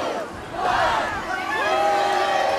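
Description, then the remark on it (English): A large crowd in Times Square cheers and whoops excitedly as colorful confetti rains down during a test for New Year's Eve, many voices rising and overlapping in a loud, steady roar of shouts and high-pitched yells throughout. “Even though it was just a test, the crowd here was excited when the colorful confetti rained down on them.”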